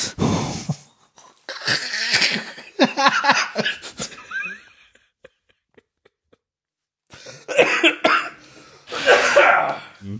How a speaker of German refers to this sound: Ich habe immer noch ein bisschen Husten und das löst ihn dann immer aus. Jetzt aber der ist wirklich raus.